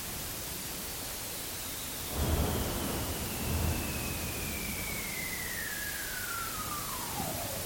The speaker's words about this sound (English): and then there's cracks that are not calving events. They are actual fracturing of the ice.